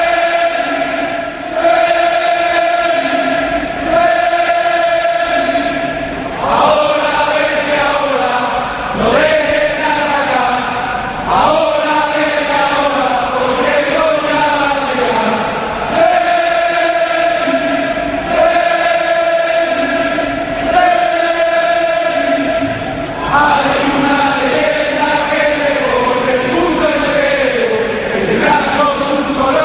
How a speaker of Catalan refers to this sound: Cantant l'himne, ambient de pell de gallina també el Benito Villamarín per rebre el líder indiscutible de la Lliga, el Barça de Xavi.